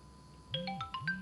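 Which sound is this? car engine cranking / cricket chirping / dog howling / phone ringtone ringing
phone ringtone ringing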